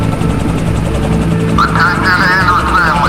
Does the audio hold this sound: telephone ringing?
no